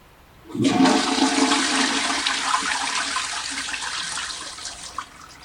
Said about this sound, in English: That was a toilet flush. I recognize that.